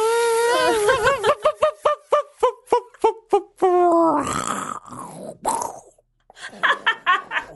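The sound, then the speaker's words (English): A voice imitates an electric chainsaw, with a rising, sputtering harmonic buzz broken into rapid pulses, then a rough whooshing crash like a tree coming down, followed by a few choppy vocal bursts. “Not that that would be much protection from a chainsaw, but very well done. That was scary. You never know which way the tree's going to fall.”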